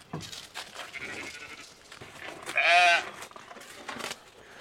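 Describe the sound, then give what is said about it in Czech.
A billy goat named Honza lets out one loud, wavering bleat lasting about half a second, rising clearly above a soft, rustling outdoor background. “kozel ten je tamhle z druhé strany, to je Honza”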